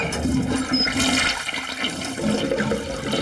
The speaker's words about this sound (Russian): Смывать нужно так.